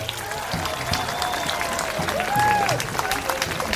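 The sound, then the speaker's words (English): A crowd cheers and claps steadily throughout, celebrating the sound of running water from a newly finished 16-mile pipeline, loud and continuous, with excited shouts and a few rising whistle-like cries standing out above the noise partway through. “And when it was done, the sound of running water brought cheers and celebration.”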